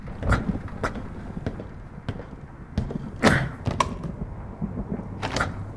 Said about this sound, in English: Here's the door. Quickly, shut it behind you, just in case.